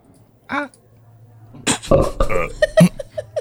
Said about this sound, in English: 2, was that a belch?